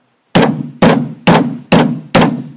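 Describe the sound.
Five heavy, forceful blows pound on a wooden door at a steady, insistent pace, each one a loud booming thud with a short ringing decay, with no voices.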